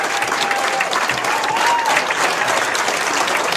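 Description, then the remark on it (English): Sustained audience applause for veterans standing in the room, thanking them for their service to the country: a dense, steady wash of many hands clapping at an even loudness throughout, with a faint whistle briefly rising above it. “Could you stand up, please, so we can say thank you and give you a round of applause for your service to our country?”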